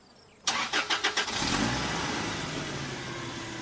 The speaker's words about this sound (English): revved the van's engine.